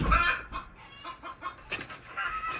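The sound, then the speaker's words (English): A chicken clucks in a quick, uneven series of short, throaty calls, moderately loud, with a slightly louder squawk near the start and no voices. “Is that chicken pissing you off, or are you guys fine? Where'd you just lay an egg?”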